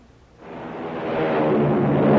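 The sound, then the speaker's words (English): An American Airlines flagship airliner taking off: a broad, rushing engine roar surges in after a brief quiet moment and keeps building steadily louder, with no voices over it. “It's the sound of a mighty American Airlines flagship taking off.”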